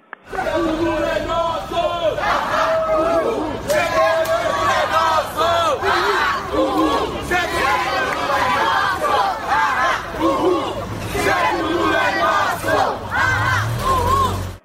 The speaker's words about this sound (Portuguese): Ao entrarem no local, os manifestantes gritaram palavras de ordem.